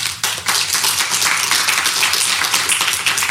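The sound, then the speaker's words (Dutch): An audience applauds to welcome a guest onto a show, a dense, steady wash of many hands clapping at once, loud and sustained throughout with no voices on top. “Mag ik een applaus”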